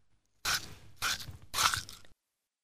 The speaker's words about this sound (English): I eat. I eat apples. Crunch, crunch, crunch.